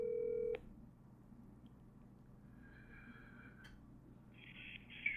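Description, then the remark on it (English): A telephone line tone cuts off with a click, then dialing tones sound, followed by a brighter electronic ringing tone toward the end. Fairly quiet over a low background hum, with no talking. “Hey, sorry you couldn't get to the phone right now.”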